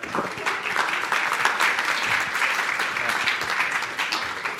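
A crowd applauds steadily for a guest speaker invited to the front, a dense wash of many hands clapping at an even loudness for several seconds without voices rising above it.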